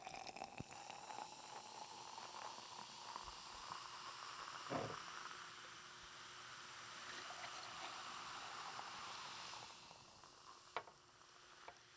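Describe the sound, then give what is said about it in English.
Liquid pours steadily into cups that are not big enough for it, a continuous bubbling, gurgling wash of sound with a few sharp clinks, softening toward the end. No one speaks. “Let's get the sound of it pouring in.”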